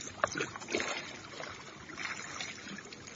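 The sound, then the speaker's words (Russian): Oars splash and churn through water as hunters row boats toward a settlement, with repeated watery strokes over a steady rushing wash, no voices. “Охотники столкнули на воду оставшиеся лодки и, сильно взмахивая веслами, понеслись к поселку.”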